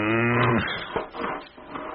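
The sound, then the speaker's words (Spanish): A human voice imitates a cow with one low, drawn-out moo that fades after about half a second, followed by quieter, indistinct rustling sounds. “No mojas como vaca y dime qué traes conmigo.”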